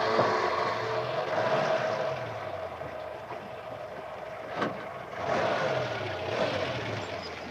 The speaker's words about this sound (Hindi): अब ये ट्रक चालू होती है।